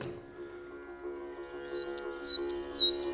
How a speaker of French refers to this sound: Et il est même arrivé qu'ils descendent un canari, donc un oiseau, comme à l'époque.